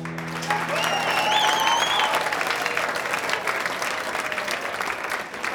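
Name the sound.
applause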